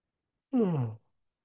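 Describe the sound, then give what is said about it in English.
A single short energy-release yawn, fairly loud, with a voiced exhale that slides downward in pitch and fades within half a second. No other sound and no talking. “Another energy release yawn happening.”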